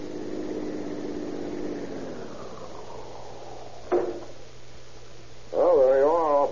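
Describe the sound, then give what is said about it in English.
A police car engine rumbles steadily at a low, even pitch during a ride, broken by a single sharp knock midway, then a loud wavering, siren-like wail rises over the motor at the end. “How did you like your first ride in a police car?”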